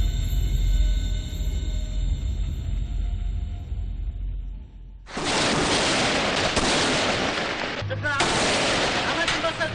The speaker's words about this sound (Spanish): El ruido esporádico de disparos en algunas ciudades sirias ha cansado al pueblo.